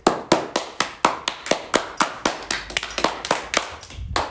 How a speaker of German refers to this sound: Es gibt jede Menge Beifall.